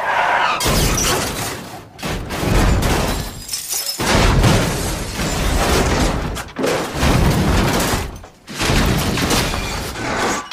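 A loud car crash sound effect played by Siri: a series of heavy impacts with crunching metal and shattering glass, broken by several brief pauses, lasting around ten seconds with no talking.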